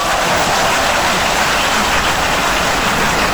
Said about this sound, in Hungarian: Ne vicc, van tapsik.